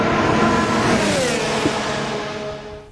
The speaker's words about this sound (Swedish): Det är många som älskar V10-ljudet och motorerna som användes på den tiden